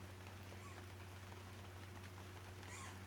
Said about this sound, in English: Listen to the rain. I think that sounds delightful.